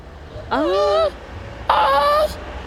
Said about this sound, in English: It's a grunt to attract females. Male koalas grunt to attract females, that's what it said.